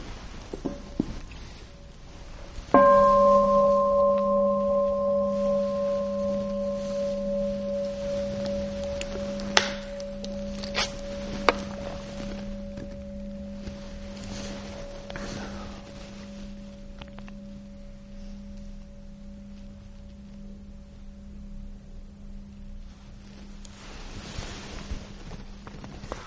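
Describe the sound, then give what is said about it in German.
A single bell is struck once, and its low, steady, ringing hum lingers, slowly fading over about twenty seconds. No one speaks. A few faint clicks sound while it rings. “Dann würde ich gerne noch meine Glocke hören.”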